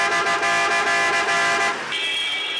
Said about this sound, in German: zeigt eine Werkstatt für Hupen, die für den typischen Sound einer indischen Stadt unverzichtbar sind.